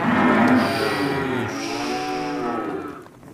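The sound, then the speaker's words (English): A cow lets out a long, loud moo lasting several seconds, its pitch shifting partway through and fading at the end, with no talking. “Try telling that to my cows.”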